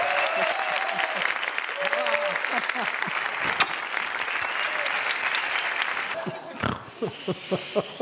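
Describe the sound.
An audience applauds steadily, a dense, crackling wash of claps with voices cheering underneath; near the end the clapping turns brighter and falls into a more rhythmic beat.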